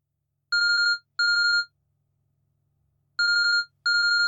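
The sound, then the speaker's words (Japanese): A telephone ringtone trills in two quick bursts, pauses, then rings twice more, each burst a bright warbling electronic chirp, clear with nothing else in the background. “おた、電話だわ。”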